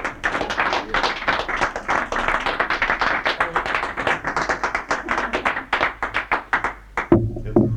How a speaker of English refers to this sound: I think a round of applause is due, yes?